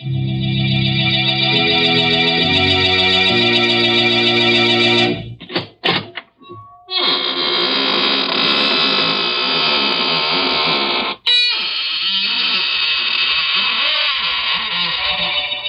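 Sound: squeaking door opening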